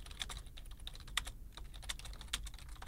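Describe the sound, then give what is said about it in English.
Rapid clicking of computer keyboard keys in quick, uneven bursts, fairly quiet, with no voices present. “He's just typing.”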